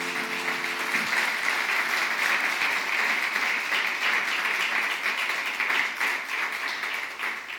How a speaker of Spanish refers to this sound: ¿Qué tal si levantamos un aplauso al Señor una vez más?